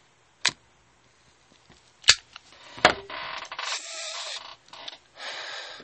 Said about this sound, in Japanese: このいいですよね、この紙巻きタバコを手に持って、左手に持って、右手でジッポ、この愛用のジッポをね、持って、火をつけるっていう、この一瞬のために、私という人間は生きていたようなものですから、ちょっと久々に、紙巻きタバコを吸ってみようと思います。